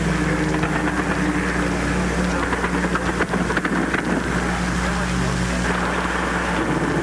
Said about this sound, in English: Now another plane is coming in from the sea. He's trailing a little smoke. May have been hit. Cruising now inland. Rapid fire now from Haganah and the aircraft. There's the plane.